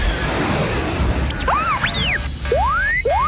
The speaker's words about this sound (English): Before Corrin could punch the throttle forward, something hit his low port stabilizer and detonated.